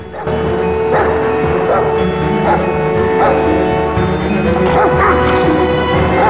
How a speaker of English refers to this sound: then looks up as a barking hound lollops towards her.